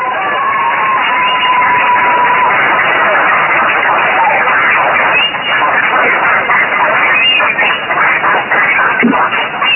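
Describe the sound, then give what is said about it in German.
A class applauds loudly and steadily for about ten seconds, a dense wash of clapping mixed with shouts and excited voices that never lets up. “Und dafür würde ich die Klasse bitten, jetzt einmal richtig laut zu sein mit dem Applaus.”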